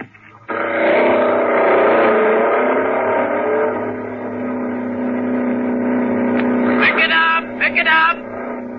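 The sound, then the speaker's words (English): A car engine revs loudly after a brief quiet start, with the driver behind the wheel waiting for the cue to film a motion picture sequence, holding a steady, humming roar with a slightly wavering pitch, then surges in a few quick bursts near the end. “you're sitting tense and nervous behind the wheel of your own car, your motor racing,”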